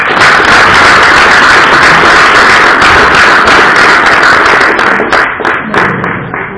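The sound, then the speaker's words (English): A crowd bursts into loud, sustained applause as a speaker is invited to come up, a dense wash of many hands clapping that holds steady before thinning into a few scattered, distinct claps at the end. “Just give her a big round of applause.”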